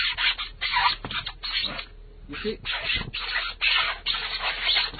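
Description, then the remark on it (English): Bare feet rub and squeak against a wet floor in a series of repeated scraping bursts, rough and gritty with a brief higher squeal midway, and a voice speaks briefly. “Can I make the floor squeak?”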